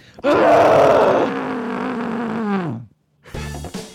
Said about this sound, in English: This is absolutely a Scream Pillow moment. Let me get my Scream Pillow out. I got mine. Are we ready? One, two.